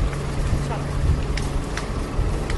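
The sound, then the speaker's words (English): A long bus painted red, with two doors, rumbles steadily with a deep engine drone and a few short, high-pitched squeaks breaking through every second or so. “It's a bus. Very squeaky.”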